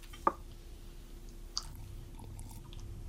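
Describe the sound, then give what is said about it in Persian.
Quiet chewing by a child eating food, with a sharp smacky bite near the start and another soft click midway, then faint mouth noises over a low steady hum. “خوشمزه شده؟ آره خوشمزه شده. با غذات آبم بخور.”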